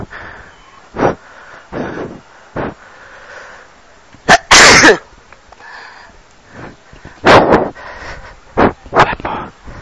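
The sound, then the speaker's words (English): A person with a heavy cold sneezes over and over in quick succession, loud, with short sniffs and breaths between the bursts and no talking. “I've been having a very heavy cold for the past 2 days, and I literally can't stop sneezing.”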